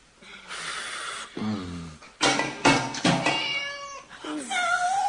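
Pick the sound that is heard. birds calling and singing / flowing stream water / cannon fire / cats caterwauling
cats caterwauling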